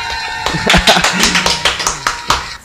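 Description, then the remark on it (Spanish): Applause from a small group: a dozen or so sharp, loud claps at an uneven pace over a few seconds, with a faint voice murmuring underneath. “un aplauso para todos ellos y en todas las partes de este continente, de este mundo que nos están viendo.”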